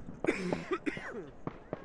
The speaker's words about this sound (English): That isn't, it's just a cough.